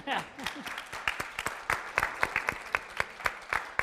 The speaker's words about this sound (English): we announced the largest current gift in the history of Baylor University, $100 million gift to the campus. And that's going to, you can applaud at that.